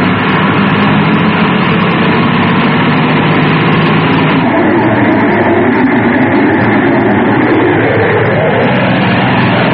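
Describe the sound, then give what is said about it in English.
The large Fire Flash airliner, carrying 600 crew and passengers, roars steadily and loudly down towards the runway on its landing approach, its heavy engine rumble filling the whole stretch without a break. No voices are heard. “So the mighty fire flash, with its crew and passengers of 600, came roaring down towards the runway.”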